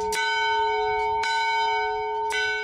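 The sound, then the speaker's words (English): An old bell from a 1900 schoolhouse, used as a boys' camp dinner bell, rings out loud, struck three or four times at an uneven pace, each clang leaving a long, humming tone that carries under the next. No voices. “When boys' camp imported this bell from a 1900 schoolhouse, it was a big deal.”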